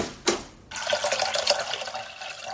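A tap runs steadily with a hissing rush of water for a water bath (double boiler) to melt dark chocolate, starting abruptly after a brief splash and continuing without pause. No one speaks.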